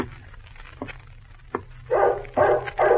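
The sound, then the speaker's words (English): A dog barks several times in quick bursts, the later barks louder, with a few softer yips and whimpers between them. “The dog is barking. Something is wrong.”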